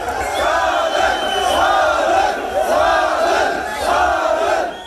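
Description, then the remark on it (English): A loud crowd of activists in Bishkek, Kyrgyzstan, celebrates President Jeenbekov's resignation, many voices shouting and chanting together in rhythmic swells that rise and fall roughly every second, with no single voice standing out. “Once news spread today of the president's resignation, activists in Bishkek celebrated.”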